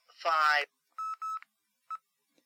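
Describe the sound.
A brief voiced sound, then three telephone keypad tones as digits of a phone number are entered to add it to the end of a recorded message: two steady beeps back to back, then a short pause before a third. Clear.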